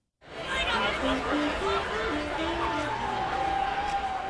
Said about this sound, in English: On a typical Saturday night in Westport, hundreds of people mill around between bars like Harry's and the Foundry. The crowds are thick between road blockades that contain the area, which isn't to say anything about the crowds inside the bars.